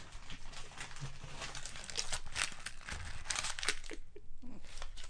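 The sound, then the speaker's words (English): Paper is crumpled, a steady run of crisp crackling and crinkling bursts lasting several seconds, with brief pauses between the sharper crunches. “Gonna have to crumble this paper now.”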